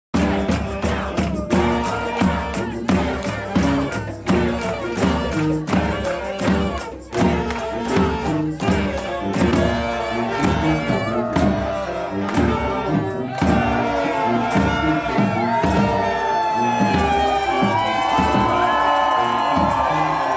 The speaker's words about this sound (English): Around 10:15 a.m., they went into the building. They chanted, cheered, sang, and danced in front of the closed door to the negotiations room.